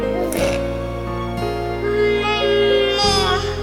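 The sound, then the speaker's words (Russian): A young child's voice hums a steady, buzzing engine noise, imitating a toy car driving after being asked how a car goes, with the pitch wavering and then rising sharply near the end, fairly loud. “Как машинка едет?”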